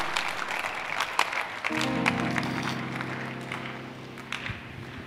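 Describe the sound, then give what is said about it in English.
A crowd claps in a dense, steady patter of applause, joined after a couple of seconds by a sustained, droning chord that holds under the clapping until it gradually thins out. “Why, you can't clap?”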